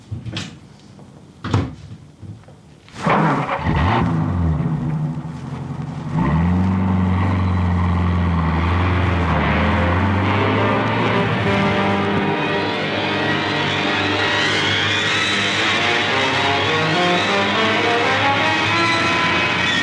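A few sharp clunks, like car doors shutting, give way to a car engine starting up and running steadily and loudly, its pitch rising and shifting as the vehicle drives off.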